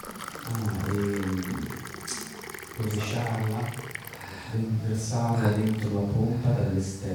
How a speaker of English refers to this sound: So what you need to do is you will have to bring water from an outside source. Quindi quello che occorre fare è prendere l'acqua da una sorgente esterna. And then pour it into the pump from above.